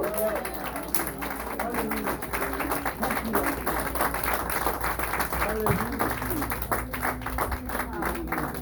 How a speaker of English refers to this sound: Somebody give the Lord a hand clap.